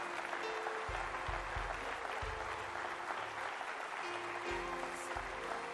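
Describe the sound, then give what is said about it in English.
A crowd applauds steadily for people as they come forward to line up, with many hands clapping at once to make a dense, continuous wash of sound. A low rhythmic thumping pulses underneath throughout. “Give them a great hand clap as people come.”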